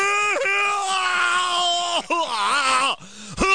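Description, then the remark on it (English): A man loudly imitates his own vomiting with a long, strained, yell-like heave that wavers in pitch, followed by a couple of shorter gagging bursts, alone. “I throw up like I'm yelling at somebody in traffic.”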